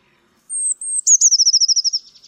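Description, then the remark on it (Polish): A blue tit's song heard alone: two long, thin, high whistles, then a quick, even, metallic trill of a dozen or so sharp, lower notes that fades toward the end. “Jej piosenka wyraźnie różni się od śpiewów innych sikor tym, że pojedyncza zwrotka jest podzielona na dwie części.”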